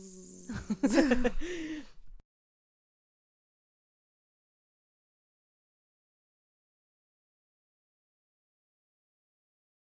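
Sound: mosquito buzzing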